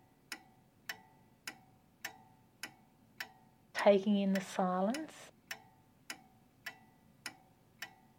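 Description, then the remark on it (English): A clock ticks steadily, about one sharp tick every half second, clear. Partway through, a person speaks briefly over the ticking, which carries on before and after. “Sometimes I actually really enjoy turning off the radio and just listening to that ticking clock and, in a sense, I suppose, taking in the silence.”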